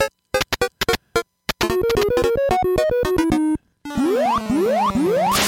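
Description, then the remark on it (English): Donkey Kong 3 arcade video game sound effects: a burst of short, sharp electronic bleeps, then a bouncy stepped chiptune melody, ending with several loud rising pitch sweeps. No talking. “Some DK3 sound. I didn't play that yet, so enjoy it.”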